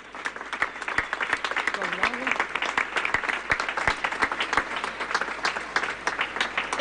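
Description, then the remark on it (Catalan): Sustained audience applause at a public tribute by the Roda de Barà town council to a sailor, a dense crackle of many hands clapping steadily at moderate loudness for several seconds, with a faint voice briefly audible underneath. “Un fort aplaudiment per ella.”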